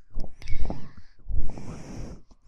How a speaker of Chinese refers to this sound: 我一贴着你你就喘气喘的厉害，心跳也加速了